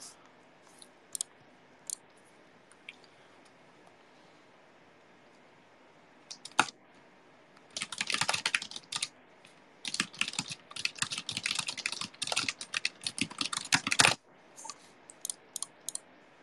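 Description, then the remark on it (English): Rapid typing on a computer keyboard, crisp: a few scattered key clicks, then a dense, fast burst of keystrokes for several seconds before it trails off into isolated taps. The typing speed is about 131 words per minute raw, 116 with accuracy. “I think my raw typing speed is 131 words per minute, but with the accuracy it goes down to 116.”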